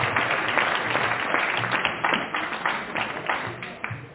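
A crowd applauds steadily for the speaker's literature teacher, a dense patter of many hands clapping at once that holds at an even, fairly loud level throughout with no speech on top.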